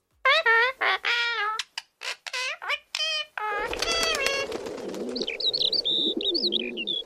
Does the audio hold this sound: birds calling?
yes